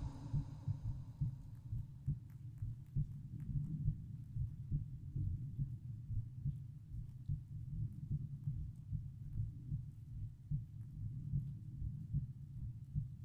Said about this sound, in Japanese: ほら、聞こえてくる？私の心臓の鼓動。